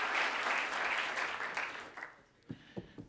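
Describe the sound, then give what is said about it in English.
An audience claps together in a dense burst of applause that fades out after about two seconds, leaving a few scattered, isolated claps at the end. “Applaud if you would have done the same thing under those circumstances.”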